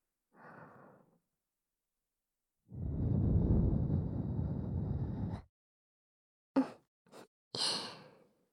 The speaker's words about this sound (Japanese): 感じていいんだよ、女の子のあったかい吐息で。お耳感じても恥ずかしくないよ。